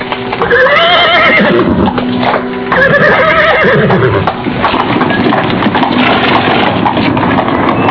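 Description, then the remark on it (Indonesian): A horse whinnies twice with loud, wavering neighs, then hooves clop steadily as a wooden horse-drawn cart carrying a family rattles and creaks away, the clatter continuing busy to the end. “Empu Janardana berdiri termangu sambil menatap gerobak kuda yang ditunggangi Naradipa beserta keluarganya.”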